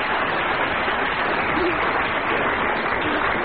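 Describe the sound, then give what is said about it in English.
Steady, dense applause from an audience for Amy MacDonald, given as an extra round with a bonus point after she spoke for a full minute without being challenged, a continuous wash of many hands clapping at an even, fairly loud level throughout, with no voices rising above it. “Only the second time, that this has happened, that somebody has spoken for just a minute without being challenged, and I think an extra round of applause, as well as a bonus point, to Amy MacDonald.”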